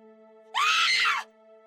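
human body sound, person screaming

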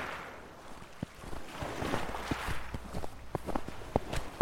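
nature, footsteps crunching on snow

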